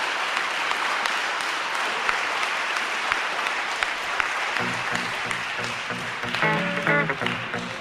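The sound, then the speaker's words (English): Steady, dense applause from an audience, sustained clapping throughout, with a low voice or hum briefly rising beneath it toward the end. “the applause is satisfying and cathartic.”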